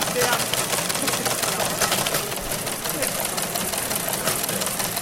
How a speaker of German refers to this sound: Also eigentlich ein alter Fernschreiber, den wir jetzt hier angekoppelt haben, dass man da SMS hinschicken kann und der druckt die dann aus.